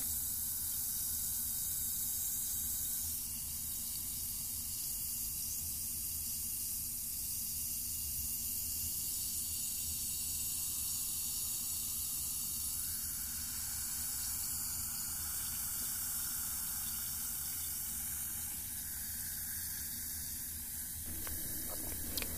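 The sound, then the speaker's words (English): A steady fizzing hiss runs unbroken for the whole stretch, bright and airy with a faint crackle, holding an even, moderate loudness with no voices over it. “I'm gonna concentrate all my energy on that fizzing.”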